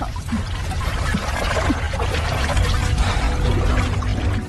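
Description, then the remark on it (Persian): Continuous water splashing and sloshing, a steady churning of liquid with scattered brighter splashes, like someone moving through water while swimming. “شنا نکن”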